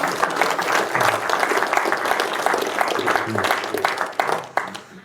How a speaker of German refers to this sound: Das hat einen Applaus verdient, glaube ich.